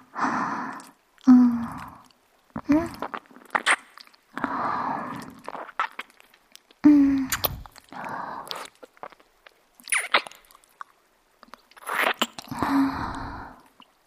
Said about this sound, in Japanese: いかがですか？お耳を甘噛み。不思議な快感でしょ？子犬がよくやる愛情表現。